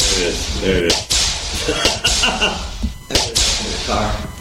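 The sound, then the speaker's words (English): Several sharp whip crack sound effects snap out in quick, irregular bursts, some in close pairs, over a steady bed of background noise and murmuring voices. “Okay, now I can hear my whip.”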